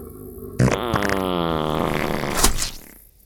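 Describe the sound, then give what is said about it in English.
A loud, buzzy cartoon fart sound effect, for a swallowed cell phone that could not be digested being excreted, lasting about two seconds, its pitch wobbling and sliding downward before ending in a short, sputtering burst. No one speaks. “He dropped the phone, but it couldn't be digested, so it's been excreted.”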